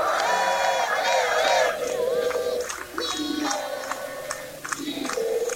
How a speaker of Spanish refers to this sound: Donde quiera que llega lo reciben con aplausos y vítores. Buenos Aires es un ejemplo.